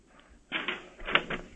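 Crisp rustling and crinkling of paper being grabbed and shuffled, in two bursts of scratchy handling noise after a brief quiet start, with no voices.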